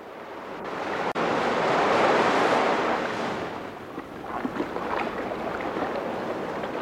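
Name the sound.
sea waves washing ashore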